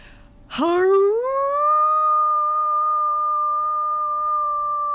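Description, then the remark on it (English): A person imitates the piteous howl of a dog tied up at a gate: one long mournful note that swoops upward at the start, then holds steady and loud for several seconds. “the most piteous howling.”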